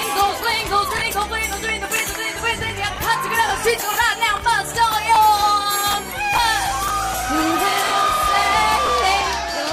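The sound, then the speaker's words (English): A large crowd cheers, whoops and shouts excitedly in reaction to a woman singing on stage, with overlapping yells and chatter, building to a sustained loud roar of enthusiastic reaction. “In the video, which became an internet sensation when it was released last week, the crowd reaction is priceless.”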